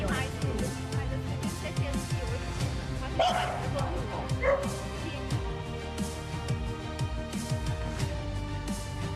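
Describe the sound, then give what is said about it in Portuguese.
Several rescued purebred dogs, among more than 76 animals taken from unsanitary conditions in a serious animal cruelty case, bark and yip in a busy, overlapping chorus, with occasional higher whimpers cutting through, while a person talks underneath the noise. “Enquanto as pessoas querem comprar cães de raça, outros animais de raça, mas não sabem todo o sofrimento que há por trás disso.”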